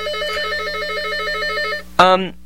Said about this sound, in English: That's not my phone, is it? No, let me just... Sorry, okay. It's my studio phone. Okay. Sorry about that.